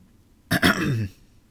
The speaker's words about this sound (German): Und … sitzt da, guckt ihn an und räuspert sich.